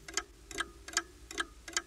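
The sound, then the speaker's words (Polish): A clock ticks steadily, five crisp clicks evenly spaced at a brisk pace, quiet with nothing else around it. “Jeden zegar w sypialni, drugi w kuchni, trzeci w salonie, czwarty w korytarzu, piąty na ręce.”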